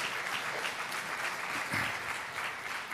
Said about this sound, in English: Now, Tammy, yeah, give the Lord a great hand clap for that, because it's amazing.